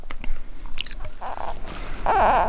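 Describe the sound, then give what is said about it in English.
Crisp crunching and chewing of fresh hawthorn leaves at Shannon Pot, a few sharp bites followed by steady mastication, with some faint background noise and no talking. “We kicked off our 40 days and 40 nights by crunching on hawthorn leaves at Shannon Pot.”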